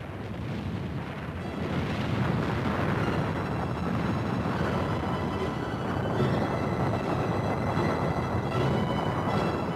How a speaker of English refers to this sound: The volcano belched ash and gas high into the air. Flashes of lightning in the ash column show how electrified the atmosphere of this violent eruption was.